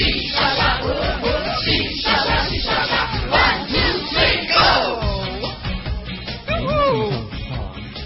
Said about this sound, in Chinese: 所有的人大声合唱，因为人多，哪里是唱歌，完全是在吼。